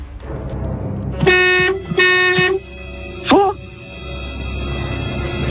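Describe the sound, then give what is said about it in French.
Two loud, steady car horn blasts in quick succession, each lasting about half a second, signalling 'false' in a true-or-false quiz, followed by a brief exclamation from a voice over a low background rumble. “Un coup de klaxon, c'est vrai. Deux coups de klaxon, c'est faux.”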